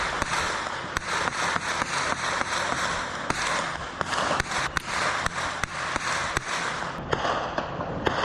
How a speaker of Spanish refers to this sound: El silencio propio de las primeras horas del día se rompió con el tronar seco de los disparos.